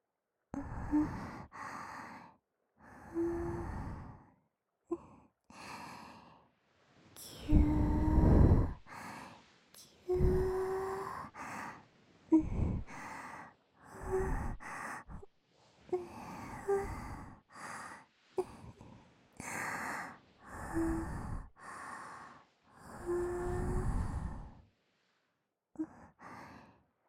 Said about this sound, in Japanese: 息かかっちゃった。でも、吐息かけるの、あなたも好きだよね。